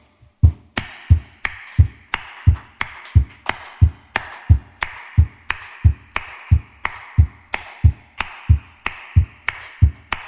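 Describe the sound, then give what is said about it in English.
An audience stamps its feet about 96 times a minute and claps as each foot comes up, a steady alternating beat of a low thud followed by a sharp clap, repeating throughout with no voices. “If you would be kind enough to help me out, you could start by stamping your foot about 96 times a minute.”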